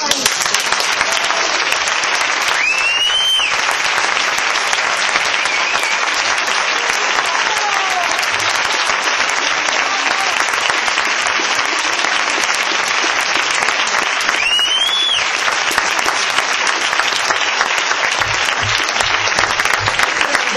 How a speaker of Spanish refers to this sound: Sin duda lo emocionante es que si aplaudís es porque pensáis que también es mi congreso.